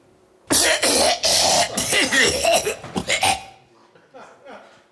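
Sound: cough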